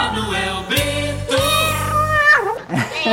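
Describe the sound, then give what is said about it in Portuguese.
A drawn-out, wavering cat meow with a bending pitch, loud, followed by shorter rising and falling cries near the end; no talking over it. “O gatinho tá na área.”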